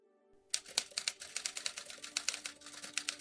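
Rapid, irregular clacking of typewriter keys, close and fairly loud, starting after a brief quiet moment and continuing in quick bursts over a faint steady hum.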